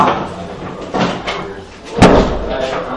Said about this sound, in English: We'll just close the door.